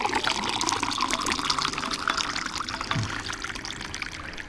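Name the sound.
water moving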